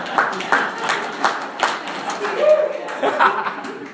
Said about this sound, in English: Everyone give my wife a round of applause.